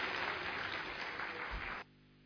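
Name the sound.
audience applauding loudly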